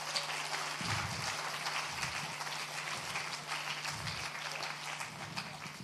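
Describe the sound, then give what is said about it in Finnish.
An audience claps steadily for people standing up who have just started a Verme training programme: a dense, continuous patter of many hands with no clear individual beats, fairly loud and unbroken, with faint low murmuring underneath. “Nostakaa ittenne ihan ylös, että saatte taputuksien kanssa.”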